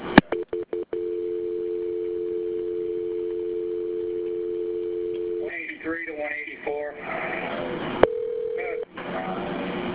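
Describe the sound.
Over a phone line, as a call is being transferred, a few clicks give way to a steady ringing tone lasting several seconds, then muffled voices come through and a brief tone sounds again.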